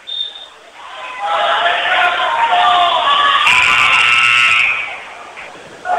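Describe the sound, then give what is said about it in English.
A loud game buzzer blares in one steady, harsh tone for just over a second during a basketball game in a gym, cutting through a constant roar of crowd noise and overlapping voices. “Buzzer sounded.”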